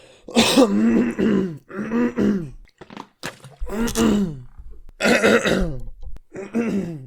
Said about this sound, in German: Oh, ich krieg nicht diesen satisfying Räusperer hin, Alter. Ja. Scheiße. Ach so, ja, der wohl richtig, der Schleim sich löst von unten, ne?